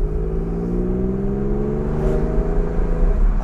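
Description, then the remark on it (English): A car engine revs with a throaty, rising drone, briefly dipping and climbing again as the driver double-clutches through a shift, loud with steady road rumble underneath and no talking. “Little double clutch here.”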